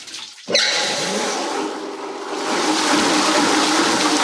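Water suddenly gushes into a paper pulp beater, a machine that soaks and kneads dry cellulose into pulp for making paper; a loud, steady rushing flow that starts abruptly and continues unbroken, with a faint mechanical hum beneath it. No one speaks.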